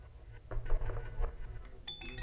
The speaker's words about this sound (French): Mais quel est ce bruit ? Le parquet qui grince ou la pensée qui luit ? On entend des craquements. Ça grince. Ça siffle. Et ça tapote.